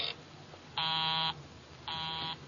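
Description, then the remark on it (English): A telephone busy signal: a buzzy, harsh tone switching on and off in even half-second pulses, clear and steady with no voices. “Busy? He's probably left the phone off the hook, Inspector.”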